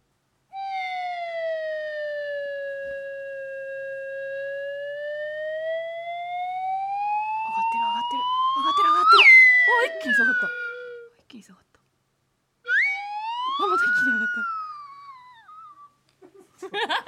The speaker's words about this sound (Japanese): そのあたりまではじゃあ私ちょっとね、ウェーブホイッスルで表現します。